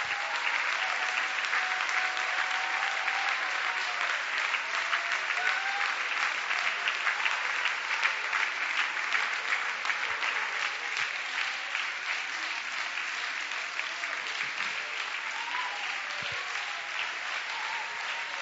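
An audience bursts into loud, sustained applause for God, a 30-second thunderous round, a dense wash of clapping that holds steady for the full stretch with a few faint shouts rising through it.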